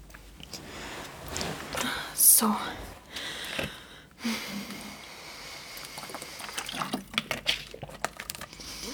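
Water sloshing and trickling as someone fetches their water, as if poured or sipped, with scattered handling noises and a sharp breath partway through; the sounds come in short irregular bursts over a quiet background.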